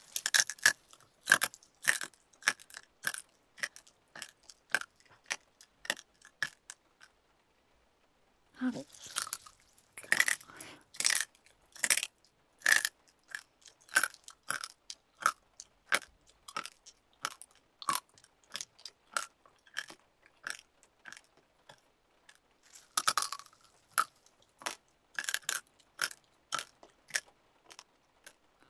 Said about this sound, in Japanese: 太い羽なのにボリボリ食べれちゃう。